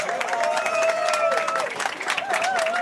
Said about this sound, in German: Das ist euer Applaus.